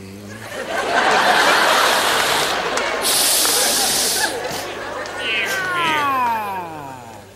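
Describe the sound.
A human voice mimics cats, drawn-out wavering meows with a hissing burst midway, loud, continuing for several seconds with a long rising-and-falling yowl near the end.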